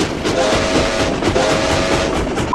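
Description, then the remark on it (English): A train rolls past on the rails with a steady, loud rumble and faint metallic squeals, with no voices. “I will take the train anywhere if I can. All aboard. Literally.”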